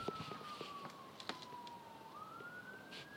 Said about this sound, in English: Friday night, and guess what? You hear sirens. That'll only be the start of it.